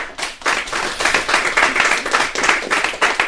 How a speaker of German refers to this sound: Ich finde, du hast auch einen Applaus verdient.